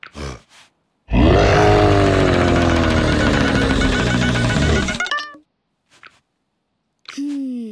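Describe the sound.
A lion lets out one long, loud, rumbling roar lasting about four seconds, trying to drive a donkey out of a dog's basket, its rough, deep tone sliding slowly lower before cutting off, followed by a few faint short noises.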